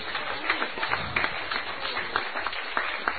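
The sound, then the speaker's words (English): An audience breaks into dense, steady applause to give the Lord a cheer, many hands clapping at once with sharper individual claps popping out every so often, holding at an even, moderately loud level for a few seconds. “Give the Lord a cheer.”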